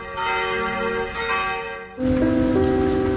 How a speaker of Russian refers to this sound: Вот эти часы на башне на самом деле звонится. Звонится. Костел оповещает о наступлении полудня, а колокольный звон разносится по всему Пражскому району Винограды.